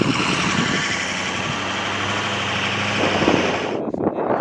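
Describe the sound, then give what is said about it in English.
A large truck with 42-inch tires idles in fine, powdery snow, its engine rumbling steadily and loudly with a low droning hum that holds throughout before shifting briefly near the end. No one speaks. “Our trucks had 42-inch tires, but that was no match for snow that was as fine as sugar.”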